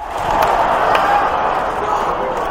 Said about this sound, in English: And that disappointed sigh was for strike one. Well, amazingly, suddenly the fans don't have a lot to say.